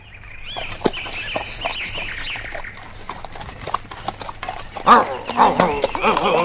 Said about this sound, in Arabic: توقف أيها الحمار، إنه صوت نباح كلب ضعيف. أجل أجل، الكلب جالس خلف تلك الشجرة.